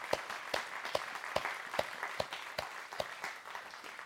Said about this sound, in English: give them a round of applause.